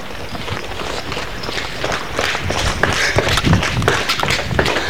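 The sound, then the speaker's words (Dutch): Brisk footsteps hurry along into a building called Atrium in the new-build area of Amsterdam-Zuid, a steady stream of quick taps over a busy, echoing background hum, growing slightly louder as they move ahead. “We lopen ergens naartoe, het gebouw in.”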